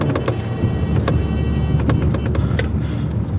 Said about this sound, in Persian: ایمان، ایمان با ماشین میره سمتش، اون فرار میکنه.